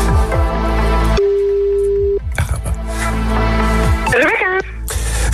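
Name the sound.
telephone ringing tone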